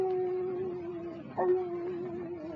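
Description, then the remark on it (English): A dog named Toby whimpers in a long, steady, high howling whine that holds through the whole moment, wavering slightly with a brief louder catch midway, no talking over it. “Don't cry, Toby. You is a smart dog.”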